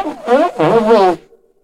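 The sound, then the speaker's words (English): A loud, voiced two-part sneeze, followed by a short reverb tail that rings out and fades, giving it an echoing, processed sound. “Just a bit of reverb on your sneeze.”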